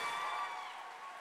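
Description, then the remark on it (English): A crowd gives a speaker a round of applause in a dense, steady wash of clapping that holds at an even level throughout the short moment, with no voices standing out. “On that note, can we please give Maheep a massive round of applause, please?”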